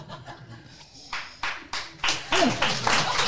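Audience clapping for someone drinking Köpi beer starts faintly, then turns into a steady run of about seven loud, evenly spaced claps that grow stronger, with a brief chuckle partway through.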